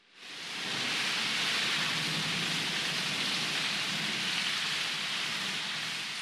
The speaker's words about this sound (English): Large drops of rain fell heavily, soaking them to the skin instantly.